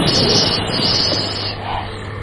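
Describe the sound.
A voice imitates a snake's hiss: one steady, breathy, high-pitched hiss held for about a second and a half, then softening into a quieter rush of air.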